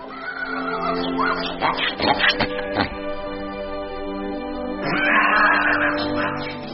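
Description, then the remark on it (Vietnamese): A pig squeals loudly and continuously for several seconds from a pig slaughterhouse at a market, its shrill cries wavering and rising in pitch, with a burst of sharper squeals midway and another surge near the end. No one speaks. “Đi đến chợ, ông vừa đến nơi thì nghe trong một lò chiếc heo truyền đến tiếng heo kêu rống rất bi ai.”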